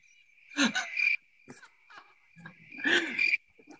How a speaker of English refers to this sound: Oh, cricket.